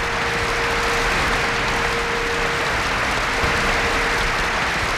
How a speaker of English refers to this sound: Finally, passing through a curtain, he walked on stage, bowed, folded his hands, and smiled. He was greeted with thunderous applause.